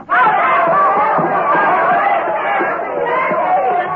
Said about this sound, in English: Holy smokes, how long is this mob of people figuring on staying with us?